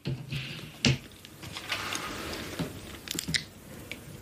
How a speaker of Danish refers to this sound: Nu skal du bare se. Jeg klipper papiret over.